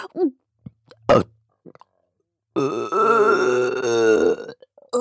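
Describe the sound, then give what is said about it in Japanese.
A quick, short burp is followed by a long, drawn-out belch that rumbles and wavers for about two seconds, loud, with a few small mouth noises around it. “こんなにゲップしたらまた我慢できなくなるかも。”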